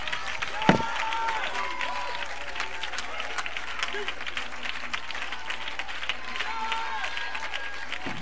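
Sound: audience clapping hands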